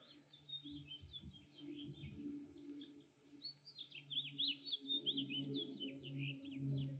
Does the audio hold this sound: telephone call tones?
no